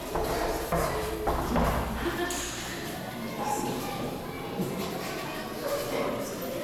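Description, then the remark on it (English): Chairs scrape and shuffle in a busy, continuous clatter, with a few dull thumps early on and a murmur of indistinct voices running underneath, with kids calling out hola. “You can hear the chairs rustling, and the kids are like, hola, hola.”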